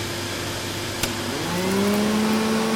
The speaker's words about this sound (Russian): Дим Димыч пылесосил в своей комнате, а фиксики, Симка и Нолик внимательно наблюдали за ним.